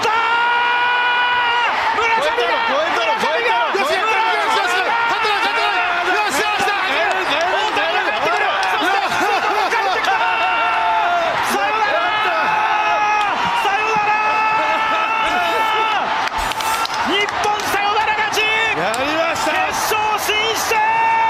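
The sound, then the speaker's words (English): A packed stadium crowd roars loudly and continuously for about twenty seconds while an excited announcer shouts a frantic play-by-play call on Japanese TV, for the walk-off double in baseball that brought Japan into the World Baseball Classic. “Now, let's hear, as called on Japanese TV, here is the walk-off double that brought Japan into the World Baseball Classic.”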